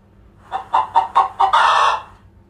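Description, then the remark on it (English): A hen clucks five times in a quick, even series, then lets out a longer, louder squawk, with no voices. “A hen has to run.”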